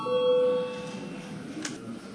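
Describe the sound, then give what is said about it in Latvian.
A parliament session bell sounds once before a vote, a steady mid-pitched ringing tone that holds for about half a second and fades, followed by quiet background noise and a brief faint click. “Lūdzu zvanu.”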